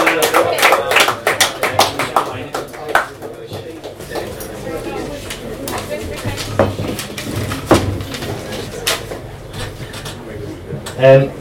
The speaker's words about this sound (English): Right, have a round of applause, please. Thank you.